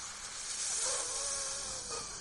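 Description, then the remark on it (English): A voice imitates a serpent sucking things in with a steady, airy hissing draw that carries a faint buzzing edge, lasting about two seconds at moderate loudness with no words. “When Musa alayhi salam's great snake and serpent came out, looked down, he just went like this.”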